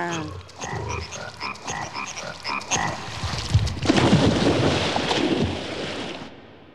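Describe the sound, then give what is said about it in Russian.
A chorus of frogs croaks in repeated, overlapping bursts, joined midway by a rush of wind-like noise that swells and then cuts off. “На них лягушачье кваканье произвело совсем удручающее впечатление.”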